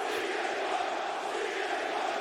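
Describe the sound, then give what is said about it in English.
A large crowd roars and chants CM Punk's name in unison, a dense, loud wall of voices that holds steady throughout with no single speaker standing out. “Crowd's chanting CM Punk loud.”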